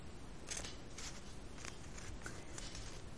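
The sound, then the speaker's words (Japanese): Origami paper, folded into a cross shape, is turned over to its back and folded, making a series of soft, crisp rustles and crinkles in quick bursts, fairly quiet, with no one speaking. “このように十字の形になっていきましたら、この折り紙を裏に向けます。”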